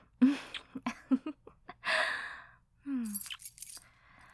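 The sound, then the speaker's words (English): Keys jangle and clink in a few short bursts as they are taken out to get in, with bright metallic rattling, mixed with breathy gasps and soft vocal sounds but no clear speech. “Jeez, at least let me get my keys out so we can get in.”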